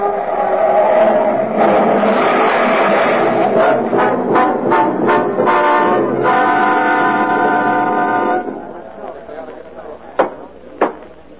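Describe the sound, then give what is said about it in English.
A loud, continuous roar of a car speeding downhill with an unconscious man at the wheel, blaring horns layered over it, building for several seconds as it hurtles toward a crossroad with a red blinking traffic light and swerves into cross traffic, then dropping away abruptly into a quieter stretch broken by two sharp knocks. “The car hurtles toward it faster and faster, then swerves madly into the cross traffic.”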